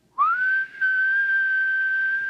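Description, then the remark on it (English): A person whistles to find lost keys on a key ring that beeps when whistled for: a single sustained whistle that swoops up quickly at the start, then holds a steady high pitch for about two seconds, with a brief dip partway through. No talking. “It's one of those key rings that beeps when you whistle for it.”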